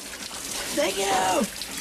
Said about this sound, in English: Joey's in the shower.